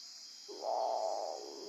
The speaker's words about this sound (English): There it is. That's the great potu. That's a bird. It's kind of like a mammal growling, and you might, if you hear that, get freaked out and the hair on the back of your neck sticks up, but it's just a fluffy bird, and that's what they sound like,